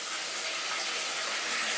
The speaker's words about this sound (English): All right, so I'm gonna fill up your dish after she brought it to me. And I'm not wearing my hearing aid, so I can't hear the water running.